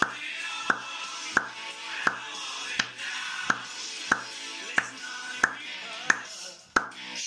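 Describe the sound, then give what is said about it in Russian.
Hands clap in a steady, even beat in time with the rhythm of a song, about ten sharp claps spaced under a second apart, standing out clearly over a quieter background of music. “Хорошо, сейчас мы научились хлопать в ритм песни.”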